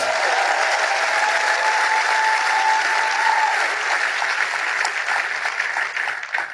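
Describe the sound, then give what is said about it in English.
A church audience claps for themselves, a dense, sustained burst of applause lasting several seconds, with a faint cheer or tone threaded through early on, tapering slightly at the end. “It's a good place to clap for yourself.”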